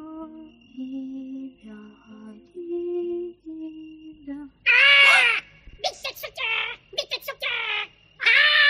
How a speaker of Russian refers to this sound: Да что ты, Оленька, это же попугай.